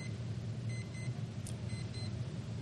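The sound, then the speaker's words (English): An alarm clock beeping faintly in short paired bursts, nearly buried under a steady low rumble of background noise. No one speaks. “This alarm clock is going off.”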